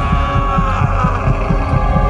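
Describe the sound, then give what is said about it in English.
An old man's muffled heartbeat thumps in a fast, steady rhythm, about four soft low thuds per second, over a constant droning hum, with no voices. “But for many minutes, his heart beat on with a muffled sound.”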